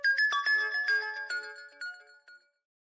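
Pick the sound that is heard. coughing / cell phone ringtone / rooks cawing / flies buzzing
cell phone ringtone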